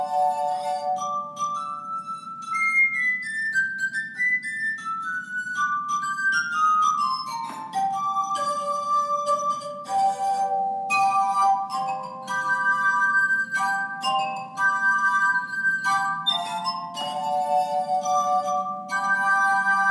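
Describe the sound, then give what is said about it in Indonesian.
Clear, ringing tones struck on glasses form a bright melody, notes stepping up and down in a steady rhythm with shimmering overtones and a soft low hum beneath, no voices present. “Orang pasti tersenyum kalau mendengar nada yang dihasilkan gelas-gelas ini.”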